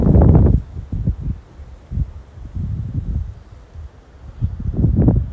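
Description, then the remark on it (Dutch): Wind gusts through a garden, rustling and buffeting the microphone in uneven bursts, loudest at the start and end, with a soft steady hiss between gusts and no one talking. “Ik sta zelf ook in de tuin. Misschien de wind, de vogeltjes.”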